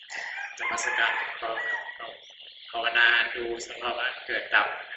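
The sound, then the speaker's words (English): Harsh, loud bird calls fill the whole stretch, overlapping squawks and crowing-like cries that rise and fall in quick bursts, fairly continuous. “We can hear a lot of bird sound. The sound of this bird is not very nice.”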